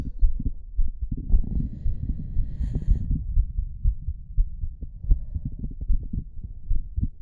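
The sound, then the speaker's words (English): A muffled heartbeat thumps steadily and fairly quickly for several seconds, low and booming as if heard through a stethoscope, with a faint rushing hum underneath and no voices. “think my heart rate has gone up?”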